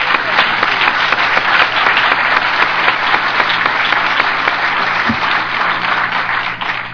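Sustained applause from an audience at an Alcoholics Anonymous meeting, saluting a member's 14-year sobriety birthday, a dense, steady wash of many hands clapping at once, loud and continuous for the whole stretch with no voices standing out.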